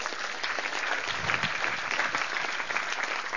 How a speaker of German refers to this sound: Toll, ja, danke. Applaus.